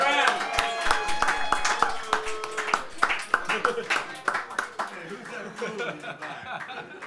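A crowd applauds with a dense, steady patter of many hands clapping at once, mixed with scattered cheers, whoops and chuckles that fade slightly toward the end.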